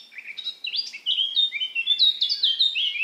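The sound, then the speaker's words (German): A blackcap sings a continuous phrase of rapid, high warbling notes, starting with a quieter first part of quicker introductory chirps and rising into a fluting, organ-like flourish in a soprano register at the top. Clear, with no voices. “ist ein leiserer erster Teil, der Vorgesang, gefolgt von einem orgelnden Überschlag in Sopranstimmlage.”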